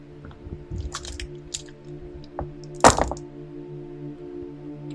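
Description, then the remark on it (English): A quick flurry of small clicking rattles, then a single tap and one louder clack as dice are shaken and tossed onto a surface for a deception roll. No one speaks, and a steady low hum runs underneath. “Shinnereth will roll for deception here.”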